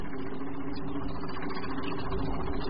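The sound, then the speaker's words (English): A steam engine rumbles along at speed, a steady, loud mechanical roar with a low droning hum that holds unbroken from start to finish, with no voices. “It's a steam engine and travelling at speed.”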